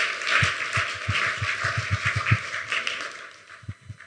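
An audience applauds in a steady, dense round of clapping that lasts a few seconds, for speakers Glenn and Adrian Weed after an opening prayer, with scattered heavier thumps underneath and no talking over it.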